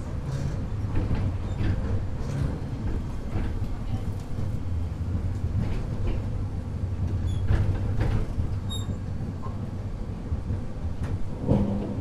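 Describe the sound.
Inside a Hakodate streetcar as it pulls into the Komaba Shako-mae stop: a steady low rumble of wheels and motor with scattered clanks and rattles, a brief high chime midway, and faint murmuring voices.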